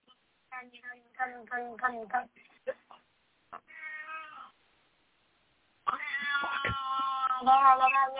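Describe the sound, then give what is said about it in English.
A cat meows and caterwauls, a series of wavering, drawn-out yowls broken by short pauses, then a loud, sustained wail that runs to the end. “Tony, do you have cats in the background?”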